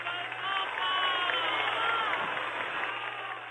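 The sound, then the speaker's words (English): A large crowd claps steadily in volleys and cheers, with shouts of "Viva el Papa" rising through a dense wash of applause that stays loud and continuous for a few seconds, sounding slightly muffled, after the Pope's speech to campesinos. “And was accompanied by volleys of clapping and shouts of Viva el Papa.”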